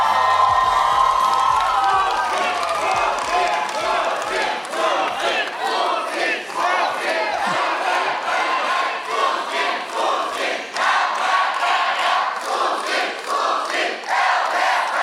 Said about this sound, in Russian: Дети, вы можете кричать сколько хотите, но в 18:30 мы все равно закончим. Поэтому садитесь. Тем более кричать на Слуцкого бессмысленно, у него и так каждое слово в цель.